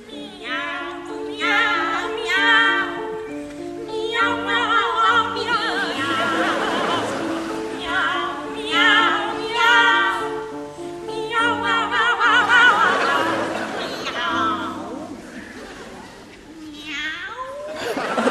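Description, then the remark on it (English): Two sopranos on stage sing a cat duet, repeating the word "meow" in sliding, playful phrases that imitate cats, over steady piano accompaniment, loud throughout. “Rossini, for example, famously wrote a cat duet where he asked sopranos to stand on stage and sing the word meow repeatedly”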